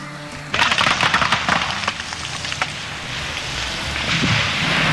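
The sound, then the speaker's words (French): A loud burst of sharp cracking and crashing as a house roof is torn off in a storm breaks over a roar of heavy, pouring rain, then the crashes fade and the steady downpour continues alone. “Dans un craquement gigantesque, le toit est arraché. Des torrents de pluie s'abattent.”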